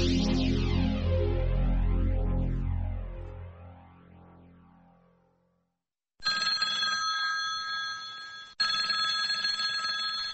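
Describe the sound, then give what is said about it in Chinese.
A deep, swirling tone fades into silence, then a loud telephone bell rings in two long, rattling bursts, one right after the other, with no voices, marking a late-night phone call on December 15, 1978, concerning Taiwan. “1978年12月15号深夜的一通电话，改变了台湾的命运。”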